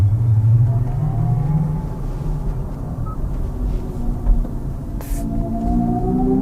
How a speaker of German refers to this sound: Für Menschen, die die Laufruhe von Elektroautos nicht ertragen können, wollen Hyundai und Kia eine Brücke bauen. Künstlicher Motorsound über Lautsprecher ist ja bereits Stand der Technik. Wir hören nochmal rein.